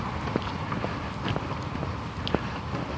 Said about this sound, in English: Walking around cars.